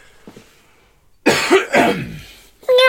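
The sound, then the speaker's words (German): A loud, rough throat-clearing cough bursts out, followed after a short pause by a brief, high, meow-like vocal sound as the person meows after clearing their throat. “Muss man beim Räuspern erst husten und miauen hinterher?”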